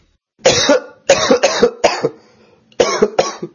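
A person with the flu coughs in two loud bursts: a cluster of four harsh coughs followed by a pause, then two more, with a slight throat-clearing rasp and no talking.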